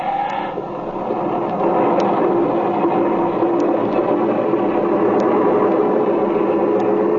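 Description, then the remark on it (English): A steady, loud airplane engine drone through a landing on a field, a dense rumbling roar with faint periodic ticks above it, like a propeller plane engine running through a landing roll. “That's a darn nice landing”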